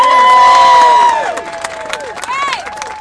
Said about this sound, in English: So I think you should give yourself a massive round of applause for that.